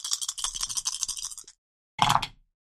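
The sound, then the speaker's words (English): One ten-sided die and three eight-sided dice are rolled, rattling and scraping in a rapid, bright clatter for about a second and a half, then a short pause and one final burst of clicking as they land. No voices. “I'm rolling 1d10 and 3d8s.”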